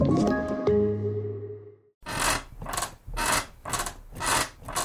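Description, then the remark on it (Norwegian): A bed creaks in a steady rhythm, about five loud, raspy squeaks in quick succession, following a brief ringing tonal sound at the start. “Slutt å forstyrre naboen med den knirkete senga di.”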